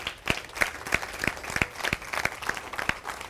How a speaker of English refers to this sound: Would you give a big round of applause to our closer this morning?